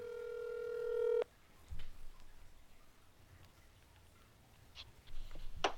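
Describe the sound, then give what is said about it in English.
A single steady electronic phone tone lasts about a second, then cuts off, leaving quiet line hiss with a few faint clicks and bumps, like a call ringing on the other end. “Let's see if I can get him on the phone.”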